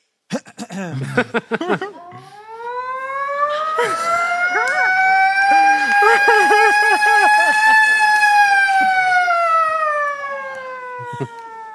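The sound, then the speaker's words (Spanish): Brief talk gives way to one long, loud siren wail that climbs slowly in pitch, holds, then sinks away, with faint voices murmuring underneath it. “Las sirenas están contadas, amigo. ¿La podrías repetir un poquito?”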